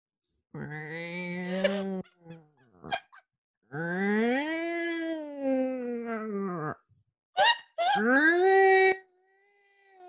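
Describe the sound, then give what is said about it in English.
A woman playing a sound-imitation game vocally imitates a yowling cat in heat, with long, wavering, strained wails rising and falling over several seconds, broken by short gasps. The imitation is loud, with no other talk. “Make the noise of a cat in heat.”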